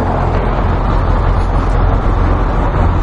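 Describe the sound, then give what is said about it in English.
A car drives past on a street, its engine and road noise forming a loud, steady low drone that holds even for the whole few seconds. No one speaks. “Comes the car.”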